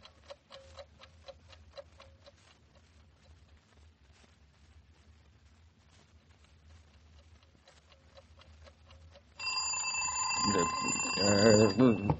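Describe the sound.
A clock ticks steadily for several seconds, then a loud alarm clock bell bursts into continuous ringing, with a voice briefly audible beneath it near the end.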